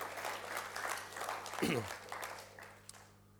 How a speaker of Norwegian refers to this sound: Priset være hans fantastiske navn. Skal vi gi en applaus for den Jesus, dere? Bare vær med. Takk, Jesus.